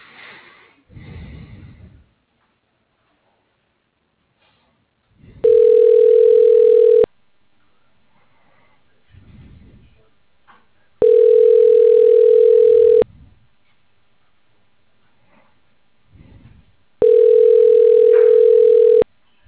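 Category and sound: signal or alarm, telephone ringing tone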